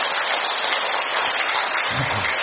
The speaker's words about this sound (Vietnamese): Một tràng pháo tay thật to nữa thưa anh chị em.